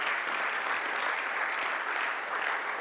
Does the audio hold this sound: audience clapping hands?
yes